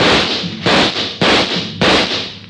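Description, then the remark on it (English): A quick volley of shots from three police pistols aboard a launch: four loud, sharp cracks a little over half a second apart, each trailing off in a hissing, ringing decay that overlaps the next. No voices. “He took a full volley of shots from three police pistols square in the chest.”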